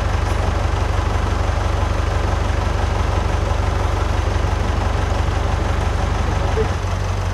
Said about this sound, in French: Oui, on arrive à l'ouvrir. Bah, je fais pour qu'on puisse tirer sur les cordes. Hein. Mettre un autre tracteur pour tirer.